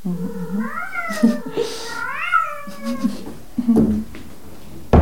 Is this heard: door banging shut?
no